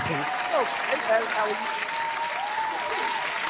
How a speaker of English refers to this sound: It's you. They're applauding for you. They're happy to have you.